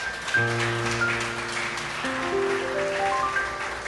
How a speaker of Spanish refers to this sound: ¿Cuántos dicen amén? Dale unas fuertes palmas al Señor.